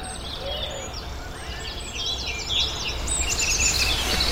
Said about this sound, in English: Well, good morning. It's coming up to 6:15 in the morning. And I've been woken up by a fantastic dawn chorus. Absolutely amazing.